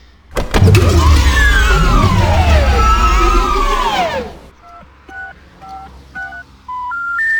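A loud roaring, whining rumble fades out, then a series of about seven short mobile phone keypad dialing tones beeps out at a steady pace, each a different pitch, clear.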